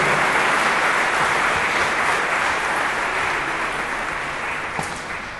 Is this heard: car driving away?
no